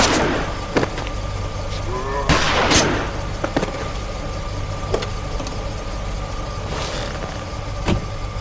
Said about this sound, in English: By this time, a number of the dead had gotten close. I shot those who were near me, then dashed into the car.